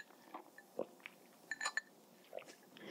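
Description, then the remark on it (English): Someone takes a quiet sip of a drink: a few soft slurping and swallowing sounds, with a brief faint clink in the middle and no talking. “Excuse me, I need to have a sip.”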